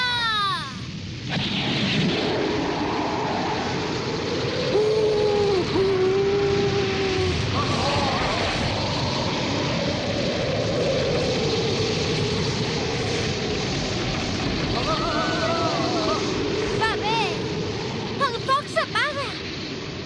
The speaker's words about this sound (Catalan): Aquest ventall provocarà un tornado i un diluvi digne d'aquell que va viure en Noé!